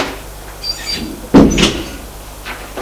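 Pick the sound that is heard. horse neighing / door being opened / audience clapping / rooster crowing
door being opened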